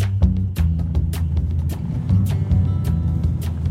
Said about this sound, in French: Ah, il y a une voiture derrière. Non, c'est bon, c'est bon. Oui, mais on en a pour 2 secondes, ça va aller.